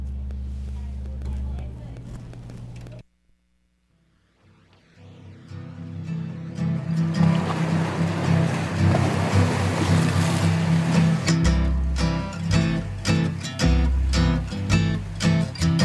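A soft musical drone cuts to near silence, then a rushing wash of ocean waves swells up loudly and blends into a song with a steady beat.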